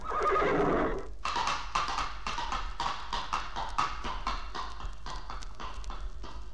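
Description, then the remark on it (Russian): A horse lets out a loud, whinnying neigh, then its hooves clip-clop in a quick, steady rhythm for several seconds as it is ridden, with no voices. “Молю богов, чтобы они прибавили сил моему коню.”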